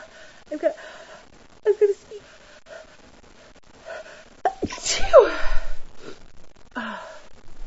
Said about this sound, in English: I tried to get out that I was gonna sneeze, but it didn't work.